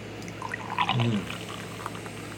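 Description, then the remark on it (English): Smoked porter beer pours briefly into a glass with a gurgling splash about a second in, followed by faint fizzing and scattered bubble pops over a steady low background hum. “Just hear those bubbles pop up.”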